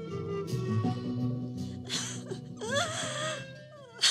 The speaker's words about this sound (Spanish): Mamá Manuela está llorando. Nuestra diosa está llorando.